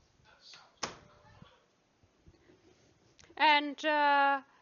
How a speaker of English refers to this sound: What we're going to do is we're going to walk over here and close my door.